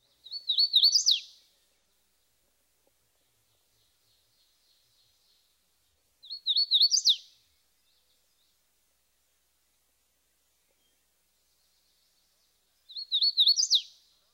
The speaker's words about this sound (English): Listen especially for the emphasis and jump in pitch, which comes in the third phrase, tuitio. Here's the hooded warbler one more time.